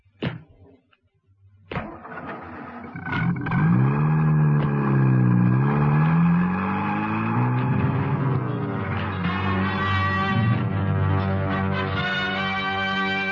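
A car door thuds and an engine catches, then revs loudly, its pitch rising and falling before it steadily pulls away, dominant with no voices.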